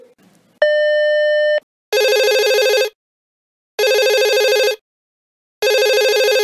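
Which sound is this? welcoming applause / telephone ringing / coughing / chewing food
telephone ringing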